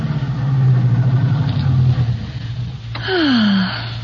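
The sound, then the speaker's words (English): A convertible car with its top down rumbles steadily, then eases off; a sharp click is followed by a falling whine as it pulls in to park along a marina by a yacht harbor and comes to a stop. “Here, pull right in here,”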